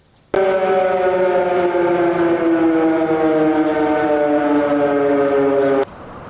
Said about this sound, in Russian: И действительно, с самого утра практически по всей стране начались сигналы воздушной тревоги. Известно, что Россия выпустила ракеты как минимум по 6 украинским областям.